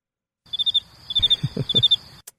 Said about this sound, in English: I'm going to say... Play some crickets. Yeah, right?